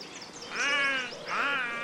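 Two drawn-out, nasal crow caws, fairly loud, with a short pause between them. No one is talking.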